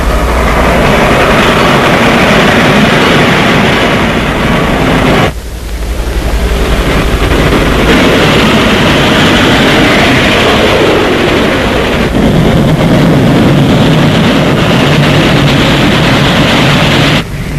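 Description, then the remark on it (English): A large, powerful locomotive engine roars continuously, a loud, dense mechanical rumble with hissing and clattering that shifts in tone a couple of times but never lets up. “Well, Well, the engines got bigger and more powerful until this happened.”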